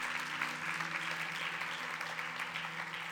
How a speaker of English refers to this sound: Guys, would you cheer for the decision that they just made? Praise God for you guys.